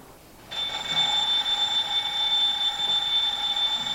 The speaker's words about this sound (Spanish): El enfermero apaga el despertador colocado en la mesilla junto a algunas fotos enmarcadas de la joven en coma.